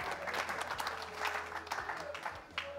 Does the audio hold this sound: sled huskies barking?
no